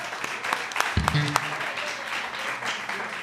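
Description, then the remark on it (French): Audience applause for municipal councillor Jocelyn Fradette, a steady wash of many hands clapping at moderate loudness, with a brief low vocal murmur and a few sharper claps standing out near the start. “On applaudit Jocelyn Fradette.”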